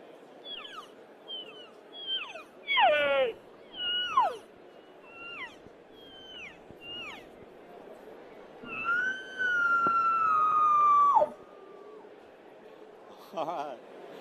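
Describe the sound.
Hunting game calls from Reel Game Calls demonstrated over the phone in a string of short, high chirping notes and a few downward squeals, then a long, loud, wavering wail that sags at the end, followed by one brief final squeal.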